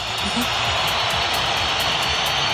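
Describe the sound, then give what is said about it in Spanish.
A loud, unbroken roar of a stadium crowd whistling in protest at the Real Madrid team in the Santiago Bernabéu, Madrid, a dense, shrill wash of noise that holds steady throughout with no pauses and no clear voices. “Así sonaron los pitos en el Bernabéu.”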